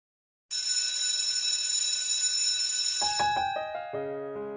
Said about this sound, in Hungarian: Kedves hallgatónk, jól sejtettem, hallom a csengőt, elköszönök, áldás békességet.